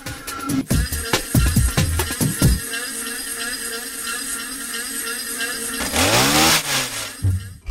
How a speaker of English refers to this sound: I wanted to play with those, so I would ask them, let's play with these machines, let's play with a leaf blower, with a weed whacker.